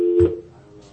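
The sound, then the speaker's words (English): A steady electronic telephone keypad tone holds for just under a second, with a brief dull thump of the phone button being pressed near the start; moderately loud, no voices. “I just hit the phone button.”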